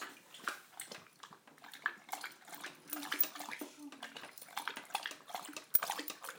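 A Labrador dog laps water from a bowl, a steady stream of quick wet slurps and splashes with a few louder splats, and no voices.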